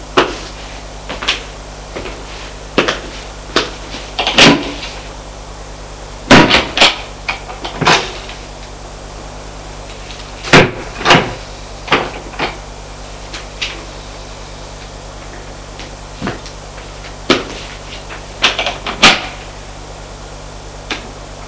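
Cupboard doors and drawers being opened and shut without anything inside being touched, a long irregular run of sharp wooden clicks, knocks and thuds, some in quick pairs, over a faint steady hum with no voices.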